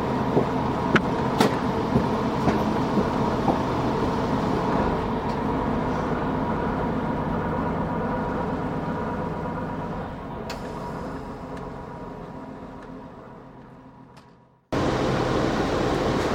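train interior rumble

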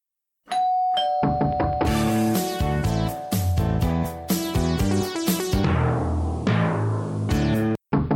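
doorbell ringing

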